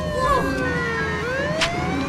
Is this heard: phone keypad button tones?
no